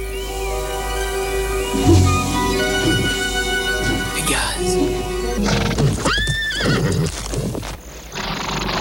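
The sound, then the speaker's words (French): A horse, Pegasus the winged horse of Greek myth coming to drink under a full moon, whinnies loudly over a bed of layered ambient tones, with scattered hoof clops and snorts; a second rising neigh cuts through near the end. “Quand la pleine lune brille sur les eaux, on dit que Pégase, le dernier des chevaux ailés, vient s'y désaltérer.”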